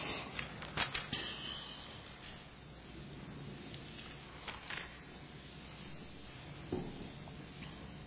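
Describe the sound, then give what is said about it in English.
Soft papery rustling of thin Bible pages being turned to Romans chapter 5, with a few sharper flicks standing out from a steady low shuffle, and no voices. “Turn with me to Romans chapter 5.”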